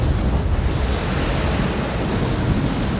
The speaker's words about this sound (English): I'm not going to turn it down because that's what it sounds like outside, basically. Right. Y'all, and I was like, all right, it's just a little storm. It'll pass. I'll finish my coffee.